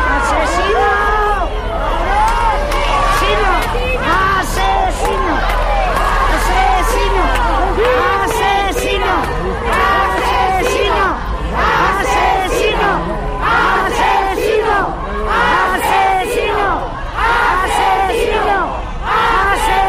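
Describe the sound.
A large crowd shouts and jeers continuously at a defendant arriving at the courts in Tudela at about a quarter to eleven, many overlapping voices rising in angry, rhythmic bursts, with sharp transient bangs and a low rumble beneath the steady, loud din.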